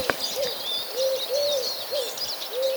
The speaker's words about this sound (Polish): w oddali między domami pochukuje sierpówka. Gołąbek o jasnym upierzeniu to nie jest sowa, jak wiele osób uważa.